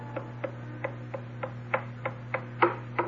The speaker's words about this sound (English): It's the old blind lady's stick tapping down the hall.